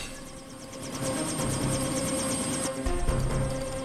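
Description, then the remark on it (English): A helicopter thrums steadily as a person boards it, its rotor chopping in a fast rhythmic beat over a dense mechanical roar that stays loud throughout, with no voices. “boards the helicopter.”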